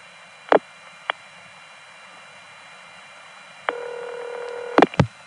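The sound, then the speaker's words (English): Long distance telephone call switching noises in Jacksonville, North Carolina, in the 1970s: a couple of sharp clicks, a pause of line hiss, then a steady buzzy multi-tone signal lasting about a second before ending in a burst of loud clicks. “And here's the long distance noise again.”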